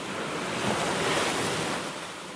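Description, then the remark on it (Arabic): Heavy, stormy surf on the shore at Beirut roars continuously, waves crashing and churning with a dense, wind-blown rush that stays loud throughout, swelling slightly in the middle. No voices. “كنت على سيف البحر في بيروت، وكان البحر هائجا غضبان يرمي بأمواج كأنها الكثبان، وقد فر منه الناس”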